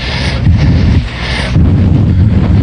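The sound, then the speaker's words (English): Loud, continuous rumbling gunfire from a shooting downtown, heavy low booms merging into a steady roar with a few sharper bursts, and no voices over it. “What's that? The shooting.”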